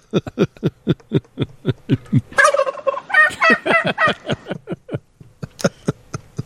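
turkey gobbling

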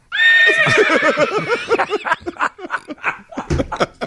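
horse whinny sound effect

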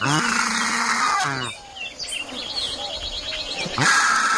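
bird calls

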